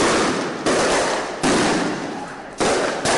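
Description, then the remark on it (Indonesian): Four loud, sharp bangs like firecrackers or gunfire go off at irregular intervals, each trailing into a noisy roar before the next blast, during a street clash in Bangkok where police fired tear gas and rubber bullets and protesters threw firecrackers; nobody speaks. “Para pengunjuk rasa melemparkan batu dan petasan, serta membakar pos polisi lalu lintas yang menyebabkan kebakaran.”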